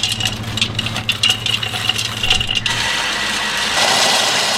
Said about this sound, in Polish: My sobie ją za chwilę zmiksujemy, zrobimy z niej taką pastę i zrobimy z niej lody. No, pyszna. Teraz są bardziej chrupkie. Chrupkie. Ekstra. Teraz wszystkie pistacje do urządzenia miksującego.